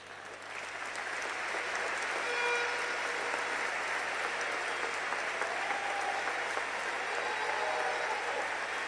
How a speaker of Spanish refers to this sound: El aplauso para los abanderados